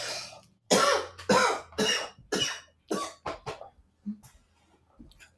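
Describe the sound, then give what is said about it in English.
A person who is sick coughs in a rapid, harsh fit of about eight loud bursts, trailing off into a few quieter coughs and breaths at the end. No one speaks. “I can cut out the coughing in post-production, so don't worry.”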